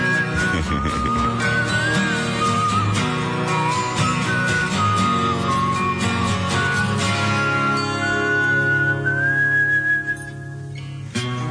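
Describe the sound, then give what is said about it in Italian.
A bright whistled melody glides and wavers above a full, steady music backing, the tune carrying clearly from start to finish with no talking, played on Rock FM radio. “E facciamoci una fischiettata insieme, dai.”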